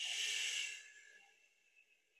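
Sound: slow exhale of breath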